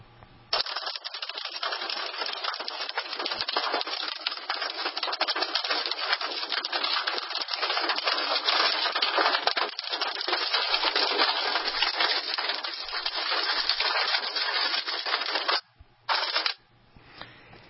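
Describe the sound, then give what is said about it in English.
Quarter-sized hail hammers a vehicle stopped off the road under trees in a dense, relentless clatter of sharp hits, loud and unbroken for about fifteen seconds before it briefly cuts out, returns for a moment, then stops. “That was hail, and it continued for quite a while.”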